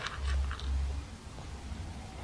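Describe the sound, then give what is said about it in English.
Quiet chewing of crunchy cereal, with a few crisp crunches in the first second, then fading into soft mouth sounds against a low background hum. “Crunch, crunch, crunch, crunch.”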